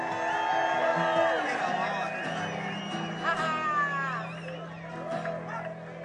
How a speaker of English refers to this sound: fans from Kansas City made it here. Give them a big cheer.